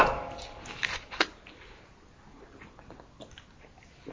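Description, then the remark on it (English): A glass of water is set down on a hard surface with a couple of short, sharp knocks in the first second, followed by faint shuffling and quiet background noise. “I'm going to put my water.”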